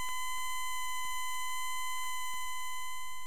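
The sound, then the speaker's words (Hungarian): A steady synthesizer square wave tone holds one mid-high pitch for about three seconds, hollow and buzzy, at an even level with no voices or other sounds. “Négyszög.”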